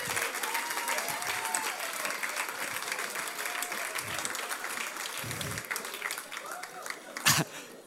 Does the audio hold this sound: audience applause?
yes